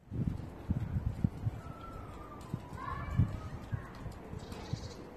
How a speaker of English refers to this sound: The sunshine. Neighbors cleaning their carpets.